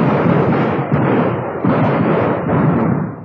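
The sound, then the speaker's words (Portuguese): Loud, rapid gunfire rattles in dense bursts, swelling in about four waves over a few seconds, with no voices heard. “Lá vai fogo, policial!”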